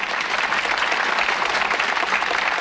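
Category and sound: crowd, applause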